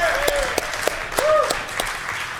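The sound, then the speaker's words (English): An audience at a live remote event at Toyota of Portsmouth in Portsmouth, New Hampshire, applauds in a steady wash of clapping, with sharp individual claps popping out irregularly and a few short, rising whistles or cheers over the top. “Okay, everybody give yourselves a round of applause.”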